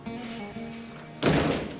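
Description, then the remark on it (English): A low, steady hum runs for a moment before a door is shut with a loud thud that rings briefly and fades into the background. “Please shut the door.”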